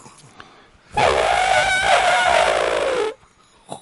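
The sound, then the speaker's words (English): A person imitates an elephant trumpeting: one loud, brassy, slightly wavering blast of about two seconds, with quiet before and after. “I can do an elephant.”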